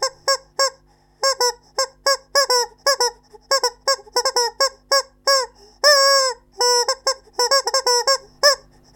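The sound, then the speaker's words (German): A rubber chicken toy squeaks in rapid, bouncy bursts, many short honking squawks in irregular rhythm with a few longer drawn-out wails, loud with no talking. “Die charakteristischen Geräusche entstehen beim Gummihuhn durch eine spezielle Atemtechnik”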